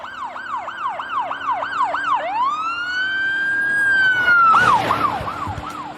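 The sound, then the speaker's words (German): A loud police siren on an unmarked police car with a blue light, speeding along Broadway, cycles through rapid yelping pulses, slides into one long rising-and-falling wail, then snaps back to quick yelps over a low traffic rumble. “als sie im Zivilwagen mit Blaulicht und Sirene über den Broadway rasten.”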